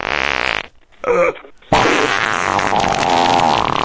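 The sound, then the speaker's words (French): A loud, buzzy fart sound: a raspy half-second blast, a short pause and brief sputter, then a long, sustained blaring rasp that runs to the end. No talking. “Mon moteur pétait à peu près comme ça.”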